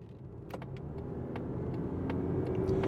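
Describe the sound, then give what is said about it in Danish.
A steady low engine hum fills a car interior as a car with a new 2.5-litre engine and 6-speed automatic gearbox drives out onto the motorway, gradually growing louder as it picks up speed, with a few faint clicks and rattles over the drone. “Og på vej ud på motorvejen”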